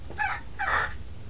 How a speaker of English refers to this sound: Lots of birds.